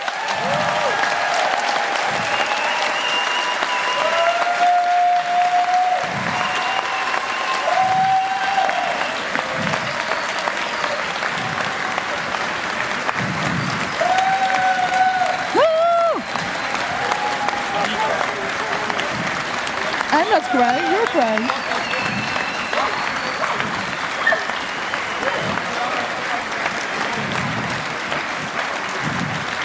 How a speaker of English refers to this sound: And these are the true heroes of this camp. So please give them a big hand of applause.